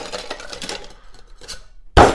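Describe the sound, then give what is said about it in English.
A scatter of small clinking, rattling hits as ice cubes tumble into a metal cocktail shaker holding fruit syrup and vanilla sugar for a martini, followed by a sudden loud, bright crash of cubes landing at the end. “In goes the ice.”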